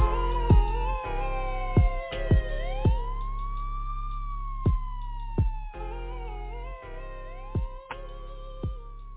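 A police siren wails, its pitch sweeping slowly up and down, layered under a music track with heavy bass and sharp, punchy drum hits throughout.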